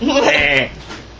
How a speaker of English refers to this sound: Right there. Lots of sheep, though. Aww, meh. Sheep. I pet them.